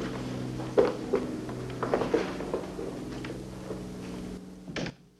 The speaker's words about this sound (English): The five officers are left alone as Sergeant Crane exits, shutting the courtroom doors behind him.